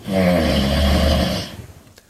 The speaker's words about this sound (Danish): Og når man så trækker vejret igen, ja, så kan din snorken blive så kraftig, at den svarer til lyden af et trykluftbord eller et fyldt fodboldstadion.